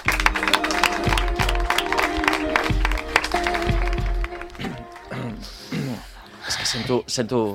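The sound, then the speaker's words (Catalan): An audience at Ràdio La Maconda applauds the school La Farigola del Clot with dense, steady clapping for several seconds, then the applause thins out as voices take over near the end. “I el que hem de fer ara és aplaudir a l'escola La Farigola del Clot.”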